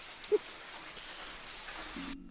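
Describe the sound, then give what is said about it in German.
Steady rain falls in a continuous, dense hiss of drops pattering on a surface, with one brief louder drip near the start and a faint low hum creeping in before it cuts off. “Bin ja ein großer Fan von Regen. Also, ich finde es gerade richtig, richtig, richtig geil.”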